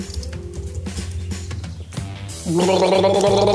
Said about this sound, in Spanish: Entonces voy a tener que tomar un poco de agua. Permítame un segundo.